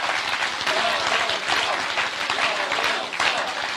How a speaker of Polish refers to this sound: I chciałbym poprosić o takie gorące oklaski, pozdrowienie dla Jarosława Kaczyńskiego.